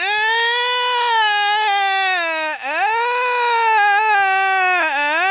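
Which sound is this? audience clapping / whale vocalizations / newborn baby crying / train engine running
newborn baby crying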